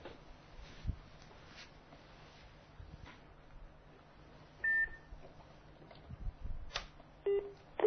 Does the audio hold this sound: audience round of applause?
no